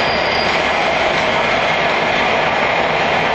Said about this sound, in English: yeah, I'm gonna record this whole train ride because it's actually pretty interesting. And I know a lot of you like trains, so hey, why not record a big giant electric train?